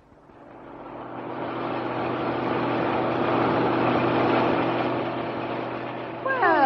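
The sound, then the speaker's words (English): A truck engine runs with a steady droning rumble that swells as the truck turns around, then a rising whine breaks in at the very end. “But I'll no get into it until it's turned around.”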